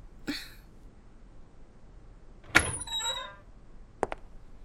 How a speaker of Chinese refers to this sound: 怎么你开个门这么久啊？